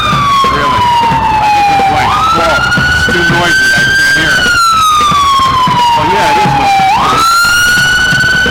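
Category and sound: vehicle, ambulance siren passing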